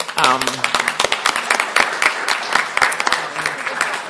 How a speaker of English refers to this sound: And I know those applause are not for me. They're intended for the institutions, because while I was involved at the very top of this, this type of work will never, ever succeed unless the faculty buy in.